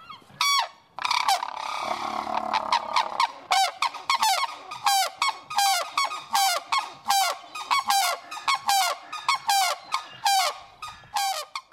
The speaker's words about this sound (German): dann bekommt der Vogelparkbesitzer meistens gleich ein Ständchen. Diesmal sind es die Weißnackenkraniche. Ja, da muss man ja applaudieren eigentlich.